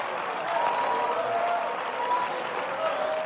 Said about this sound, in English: Yes, you can clap your hands.